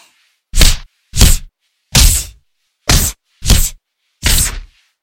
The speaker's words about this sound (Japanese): 大きくは振りかぶることはできないから、威力は普通のジャブ以下ですけど、こういう弱いパンチを受けるの、むしろ気持ちいいんじゃないですか？